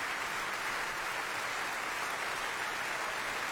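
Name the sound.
opera audience applause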